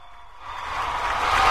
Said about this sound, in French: Bravo. Bravo. Bravo, bah toi tu vas avoir droit à de vrais applaudissements.